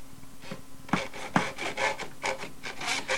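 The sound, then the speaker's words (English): A rasp scrapes back and forth across wood in repeated strokes, a gritty rhythmic rubbing with a couple of sharper catches near the start, fairly loud with no voices. “Then here's the wood, the hammer, the nails, the saw, the screwdriver, the screws, the rasp.”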